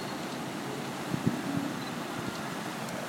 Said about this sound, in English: they're opening the gates up on the seaside, so you can hear the water absolutely thundering through.